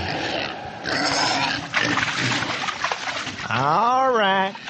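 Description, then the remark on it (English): Pigs being fed in a backyard in Biloxi grunt and snort in a noisy, jostling burst, then one lets out a long, wavering squeal near the end. Loud. “Mr. Elmer Corn, that manure-hauling adventurer, is out in his backyard feeding the pigs.”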